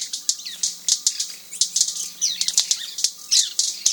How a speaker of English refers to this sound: Today we're in Trinidad, checking out the action on the forest floor. These firecracker-like pops are coming from the wing snaps of male white-bearded mannequins performing in a group display.